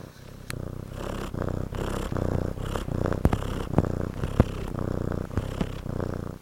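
A cat purrs steadily, a continuous low rumbling drone pulsing in a slow rhythm of breaths, with a few faint clicks and snuffles, and no one speaking.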